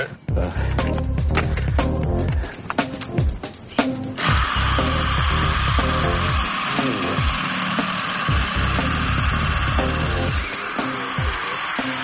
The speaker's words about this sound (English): I'm gonna drill us a hole. Let's live right in here. So while you're drilling, you just want to keep it at an angle even with the roof pitch, you know?